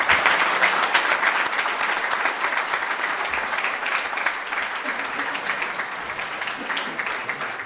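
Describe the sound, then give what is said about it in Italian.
Sustained audience applause for Delio Figus, mayor from 1970 to 1975, as former mayors are called up: a dense wash of many hands clapping at a steady, fairly loud level that fades only slightly over several seconds, with no clear voices standing out. “Cominciamo da Delio Figus, sindaco dal 1970 al 1975. Un applauso.”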